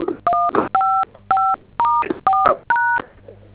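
Seven telephone keypad DTMF tones beep in a quick, fairly even sequence as buttons on a telephone are pressed, each a short, clear dual-pitched press, with faint voices murmuring underneath between the beeps.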